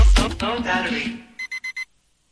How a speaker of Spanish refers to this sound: Me sonó el despertador, me volvió la realidad.